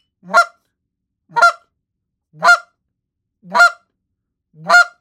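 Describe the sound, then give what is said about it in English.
Five short, sharp clucking notes blown on a goose call, evenly spaced about a second apart, loud with clean silence between each one and no talking. “Now, another note is a cluck.”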